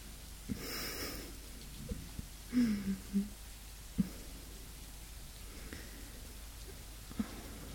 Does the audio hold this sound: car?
no